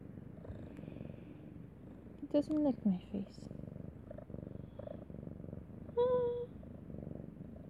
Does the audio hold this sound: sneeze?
no